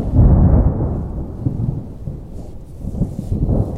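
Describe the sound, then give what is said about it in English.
Deep, rolling thunder rumbles loudly over a lake in the Boundary Waters, fading slightly mid-way before swelling again in a low, sustained growl, with a faint hiss of rain underneath and no voices. “The skies shouting.”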